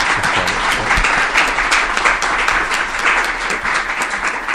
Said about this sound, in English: I'd like to give them a round of applause.